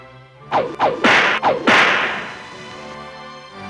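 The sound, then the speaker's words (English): Four sharp whip cracks snap in quick, slightly uneven succession, each loud, followed by a fading, hissing reverberant tail. No one speaks. “And that's your whip around.”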